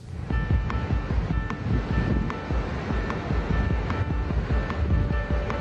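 Steady rushing and lapping of river water as a small wave rolls through, with a constant wash of wind across the microphone and occasional light knocks; no one speaks.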